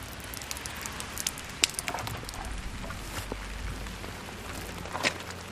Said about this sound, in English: Nearby, the rain plays on the plastic covering the pallets of bricks for a new driveway.